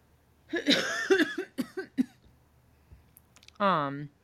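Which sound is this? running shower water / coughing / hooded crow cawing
coughing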